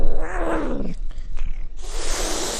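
animal, domestic cat vocalizing

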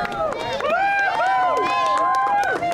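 crowd, crowd applauding and cheering

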